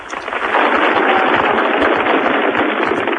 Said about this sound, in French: C'est en frappant dans les mains que les Italiens ont rendu cet après-midi hommage aux 5 gardes du corps d'Aldo Moro. Lorsque les 5 cercueils portés par des carabiniers ont quitté la basilique San Lorenzo, ils ont été des centaines à applaudir,